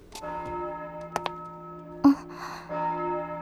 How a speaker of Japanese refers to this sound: 鐘が鳴ってますね。